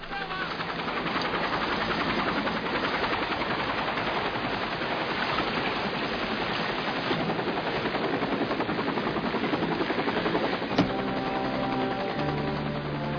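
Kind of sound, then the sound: vehicle, helicopter flying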